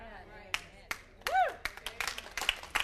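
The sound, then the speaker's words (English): An audience breaks into clapping, a few scattered claps at first that quickly thicken into brisk, uneven applause, with a voice calling out briefly in the middle. “Before you clap, I got another point to make.”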